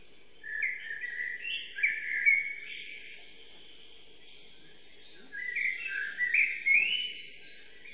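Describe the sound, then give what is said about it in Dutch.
Birdsong chorus among beech trees in early morning woodland at dawn: bright, layered trills and chirps in two busy bursts over a soft steady background drone, with a quieter lull between them. “Alleen dat vogelconcert, dat ruime hemel rond, vertelt mijn blijde mond.”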